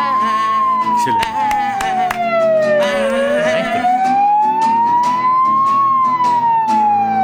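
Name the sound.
emergency vehicle siren wailing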